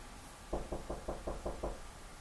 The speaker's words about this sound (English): I hear your door knock.